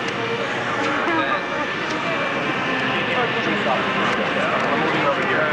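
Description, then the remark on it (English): A steady, continuous roar of jet aircraft engines fills the background, mixed with a dense murmur of crowd chatter and a band playing in the background, at a consistent loud level throughout. “I hear jet engines.”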